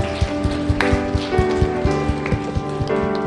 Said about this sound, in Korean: 이 시간 우리의 예배를 받으시기에 합당하시며 누구보다도 우리의 진정한 예배 받으시기를 기다리시고 기뻐하시는 주님께 우리 이 시간 한 번 더 우리 영광의 박수 같이 올려드렸으면 좋겠습니다.